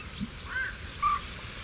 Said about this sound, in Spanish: ¿El bobo? ¿Qué es? Un abetorillo, es una garza que marca el compás, es como un metrónomo.